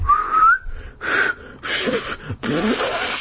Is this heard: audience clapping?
no